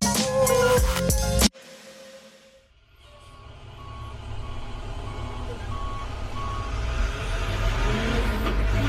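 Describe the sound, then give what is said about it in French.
After a brief loud burst, a large delivery truck with air brakes arrives, its engine rumbling steadily louder, with evenly spaced reversing beeps sounding over it. “Les gens, ils voient juste le camion qui arrive, qui livre, mais ils ne savent pas tout l'acheminement qu'il y a derrière.”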